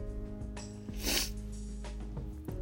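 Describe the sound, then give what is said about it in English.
A loud sniff rushes in around the middle, with fainter sniffles before and after, over a steady low hum and no talking. “Sorry again for the loud sniffling noises.”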